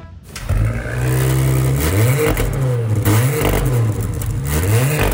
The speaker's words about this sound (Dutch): Dan, doe jij er ook even het motortje starten? Dan doe ik maar even starten ertussen. Nou, doe maar even. Ik sling hem aan voor je.